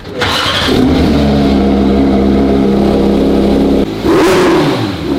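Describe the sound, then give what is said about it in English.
A car drives over a rough road in Cape Town, its engine droning loud with a steady low rumble and rattling road noise, briefly dipping before surging again near the end. No one speaks. “Listen, Cape Town Roads.”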